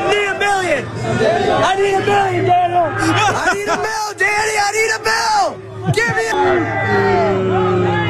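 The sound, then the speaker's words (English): A crowd of Giants fans jeering and heckling quarterback Daniel Jones after a loss as he walks to his car along a fence line, with many overlapping shouted voices, yells and whoops forming a loud, continuous hubbub throughout, rising and falling in bursts of bellowing. “So it was some Giants fans that was waiting”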